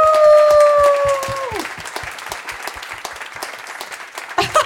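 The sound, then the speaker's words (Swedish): A live audience breaks into steady, dense applause, with a sustained howling tone sliding downward at the start before the clapping continues on its own; a big, warm applause welcoming a guest. “Hörrni, ge en stor och varm applåd.”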